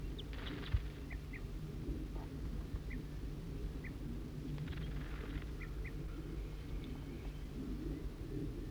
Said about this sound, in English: Must be the male who's giving alarm calls.